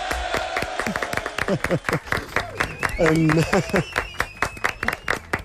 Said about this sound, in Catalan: Se mereix un aplaudiment.